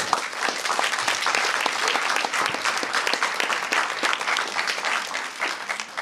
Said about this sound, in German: Bitte, großen Applaus.